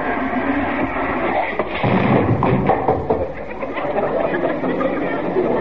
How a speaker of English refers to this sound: That's Carol slamming out.